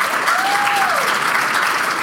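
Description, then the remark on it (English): An audience claps steadily in a dense, sustained burst of applause, a continuous crackle of many hands at even loudness, with a faint whistle-like tone rising and falling early on. “So how many of you listened to our podcast before you came today? By applause.”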